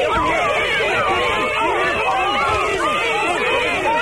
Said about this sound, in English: Now, you know we can't just have everybody screaming and yelling.